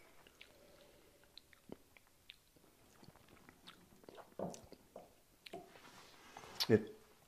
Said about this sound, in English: We should say sláinte, because I'm going to have a teeny sip.